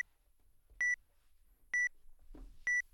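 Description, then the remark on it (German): A book scanning device beeps three times at a steady interval of just under a second, short bright electronic tones, signalling that the pages are wobbling and no image is taken yet, with a faint rustle of a page moving between the second and third beep. “Hier kann man sich durchaus Zeit lassen, denn wenn ich mit den Händen dran gehe, dann wackeln ja die Seiten und es wird folglich auch kein Bild geschossen. Man hört das dann auch, das Gerät piepst dann.”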